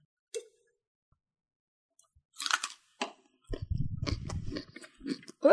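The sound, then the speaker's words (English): Crisp crunching bites into a raw carrot: a short snap, a loud crackly crunch, then steady munching with wet, crackling chewing that grows louder toward the end. No one speaks. “I'm still eating my carrot.”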